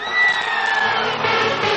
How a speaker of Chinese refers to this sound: 感觉到位，不要叫对呀，尖叫声大一点。